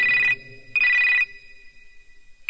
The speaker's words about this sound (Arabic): دق التليفون.